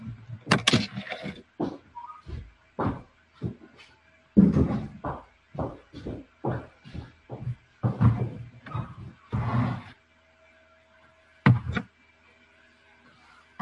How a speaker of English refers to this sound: Door's closed.